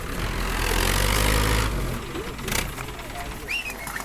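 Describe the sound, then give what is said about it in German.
A tractor engine rumbles loudly and low for the first couple of seconds as it pulls three large yellow trailers along muddy field tracks through a plantation at Finca Santa Clara in Costa Rica's Caribbean lowlands, then fades into a quieter outdoor background with a few bird chirps near the end. “Ein Traktor zieht drei große gelbe Anhänger durch die morastigen Feldwege, die die Plantage durchziehen.”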